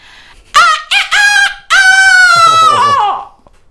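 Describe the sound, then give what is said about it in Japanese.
A voice imitates a rooster crowing: two short clipped notes, then one long drawn-out call that falls away at the end, loud, with nothing else around it. “今年はあなたの年ね。頑張ってさ、たくさん卵産んで。”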